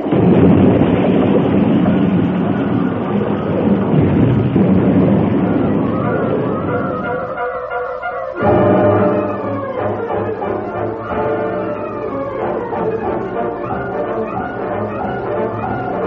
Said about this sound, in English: The cars left the rails at the turn and rolled over and over until they crashed into the great boulders that lined the slope.